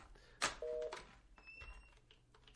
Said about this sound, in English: Just hit the speaker button. I did. It's not working.